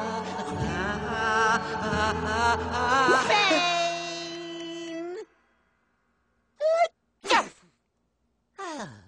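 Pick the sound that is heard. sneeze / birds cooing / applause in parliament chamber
sneeze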